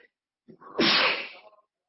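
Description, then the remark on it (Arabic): A single loud sneeze in cold, rainy weather in Turkey: a short breathy intake followed by a sharp, explosive burst that trails off quickly into silence. “ونسبة إن أنا عطست، الجو بارد في تركيا ومطر وبتاع، ما يسامحهم قاعديني في الأوضة يمكن ما تكونش متدفية ولا حاجة.”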